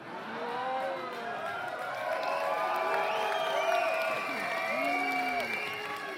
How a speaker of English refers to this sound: Yeah, but hang on a second. Why are you unhappy with that? I thought people in Deutschland think Bayern is another country and people in Bayern think Deutschland's another country, so why are you booing?